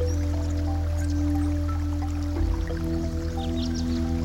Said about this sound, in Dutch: Het geluid van het water is prettig en rustgevend.